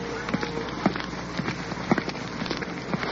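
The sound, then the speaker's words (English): A steady wash of slight rain falling on a street on a windy, icy cold day, with scattered irregular patters and small taps, soft and continuous throughout, with a low hum underneath. “There's a slight rain falling right now.”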